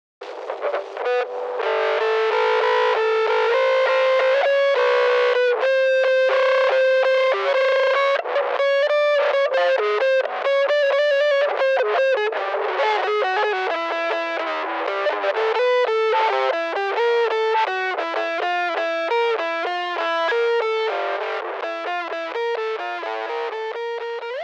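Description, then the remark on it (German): A heavily distorted string instrument plays continuously and loudly, its notes sliding up and down the neck in wavering glides, with an effects-laden, buzzing tone and no talking. “bin zum Teil auch einfach die Seite hoch und runter gerutscht. Auch das könnt ihr einfach machen”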